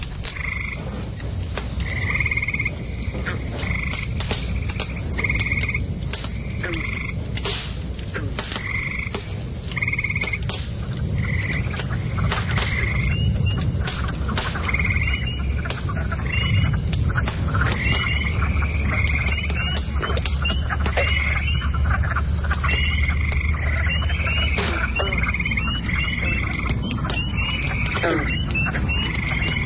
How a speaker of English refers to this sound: Those frogs are loud. They've increased. In fact, they're increasing by the minute.